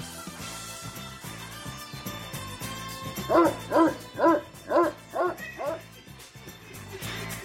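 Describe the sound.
A dog barks six times in a quick, even rhythm, loud, standing out over a steady bed of background music and voices.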